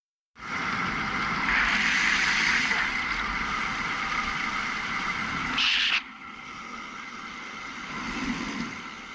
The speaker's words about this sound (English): Then you'll hear one car go by.